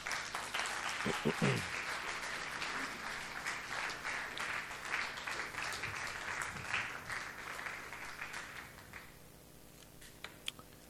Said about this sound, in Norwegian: Gi dem en skikkelig god applaus.